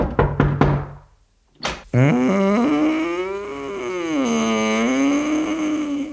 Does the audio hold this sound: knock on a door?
yes